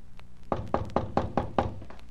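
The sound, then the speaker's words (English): Six evenly spaced knocks on the wooden front door of an old house with boarded-up windows, each firm rap giving a hollow, resonant thud. No voices, just a faint hum between the knocks. “I walked up the stairs and knocked on the front door, never expecting an answer.”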